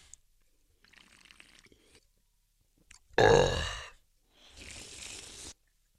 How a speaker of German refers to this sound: Ich nehme mal einen Schluck hier aus meiner Spritzo.